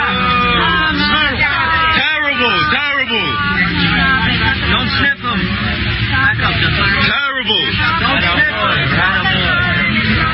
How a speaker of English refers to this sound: That was New Yorkers booing Joey Demento, Joe Biden. They called them murderers. Obama was there.